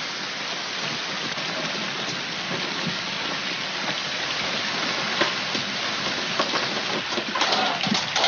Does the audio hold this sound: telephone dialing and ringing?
no